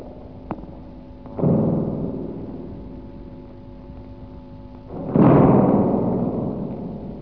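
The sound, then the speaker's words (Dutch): An imitated storm: two loud, rushing gusts of wind-like noise, each swelling suddenly and slowly dying away, over a faint steady hum. A brief click comes before the first gust. “Klein beetje storm.”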